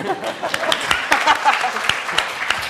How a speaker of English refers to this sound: Do I not get a round of applause?